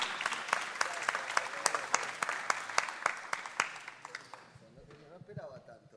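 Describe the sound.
An audience applauds with dense, crackling clapping and a few sharper individual claps, then the applause thins and fades out over the last couple of seconds as a voice begins.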